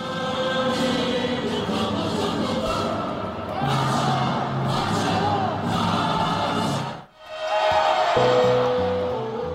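A loud stadium crowd roars and cheers continuously, then briefly drops away before a steady, sustained horn blast sounds with a bright, buzzing tone, shifting pitch toward the end.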